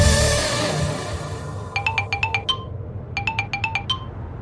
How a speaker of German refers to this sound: Es läutet das Phon und mein Meister hat es gehört schon? Kannst du erkennen, wer mich zu dieser Zeit nervt?